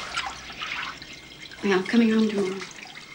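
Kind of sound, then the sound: household object, shower water running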